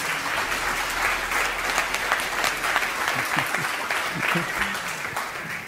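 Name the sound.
audience clapping in praise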